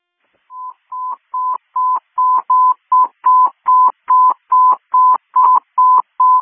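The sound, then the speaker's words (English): A rapid, evenly spaced string of about fourteen short electronic tone bursts at a steady mid pitch, loud and clear over a radio channel with no one speaking: fire dispatch paging alert tones sent as a test for the Algonquin fire department. “Algonquin Fire, stand by for a test. Tones, only a test.”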